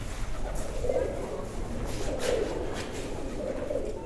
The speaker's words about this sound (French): J'entends le son migrateur. C'est des oiseaux qui migrent vers le soleil.